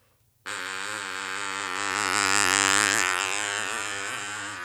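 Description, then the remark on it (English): An old duck call blown to mimic a mini bike engine as a sound effect: one abrupt, sustained buzzy drone with a slightly wavering pitch that swells a little louder midway, with no talking. “And then there are mini bikes that I have something that I can create a mini bike sound with, which is like.”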